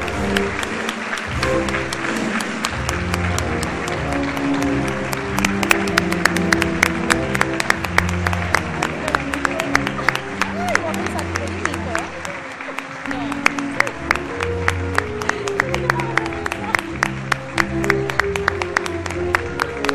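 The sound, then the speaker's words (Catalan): An audience breaks into loud, sustained applause, dense overlapping clapping that holds steady throughout, with a murmur of crowd voices mixed underneath, for the 2024 clavarieses of a local festival. “Un fort aplaudiment.”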